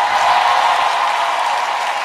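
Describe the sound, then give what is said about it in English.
A crowd applauding, a dense, steady wash of many hands clapping that holds at an even, fairly loud level for about two seconds with no voices over it. “Oh, even if you don't clap, I will clap for myself.”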